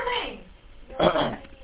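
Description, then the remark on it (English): A single sharp sneeze bursts out after a short moment of quieter vocal sound, loud and breathy, then trails off quickly. “Any allergies? Bless you.”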